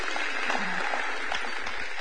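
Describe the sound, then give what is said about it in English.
A crowd claps for the kids and youth in a steady, dense wash of applause that holds at an even loudness for the full two seconds, with no voices standing out. “Big round of applause. Y'all clap for the kids today.”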